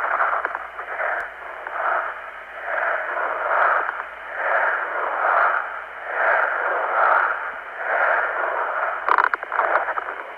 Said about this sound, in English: Now the crowd is chanting Lietuva, Lithuania. Let me just hold the phone up one more time.